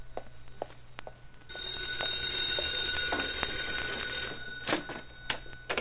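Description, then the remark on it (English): A payphone in a neighborhood drugstore rings around seven in the evening in one steady, continuous burst of about three seconds, a bright metallic jangle, framed by a few soft clicks and knocks before and after. “It's okay, Pup. It's for me. I've been expecting a phone call.”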